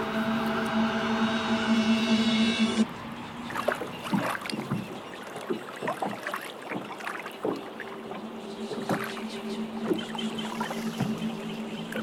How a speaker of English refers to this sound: Boat. That ugly guy is Sharon. Why? He'll ferry you.